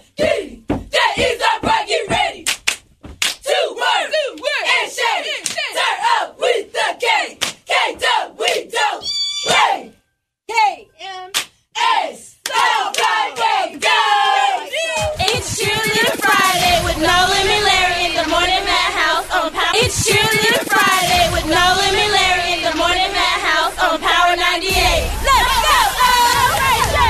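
A group of cheerleaders from Kennedy Middle shouts a cheer in rhythmic, punchy bursts, then swells into a loud, sustained chorus of high-pitched chanting and yelling that carries on to the end.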